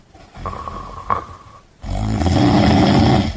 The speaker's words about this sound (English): Let me tell you, this fella could snore to wake up the dead. Now, luckily, I can sleep with the best of them, and I was able to get to sleep, but honestly, this is pretty close to what it sounded like.